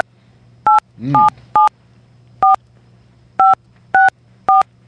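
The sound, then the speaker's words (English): A run of seven touch-tone phone keypad beeps, each a short dual-pitched tone, spaced unevenly as a phone number is entered to locate an account on an automated phone line, with a brief muffled voice sound near the start and a low steady hum underneath. “To help locate your account, enter your phone number beginning with area code or enter your account number.”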